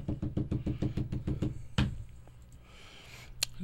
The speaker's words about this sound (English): Beat a table or something? Beat a table. Make some noise.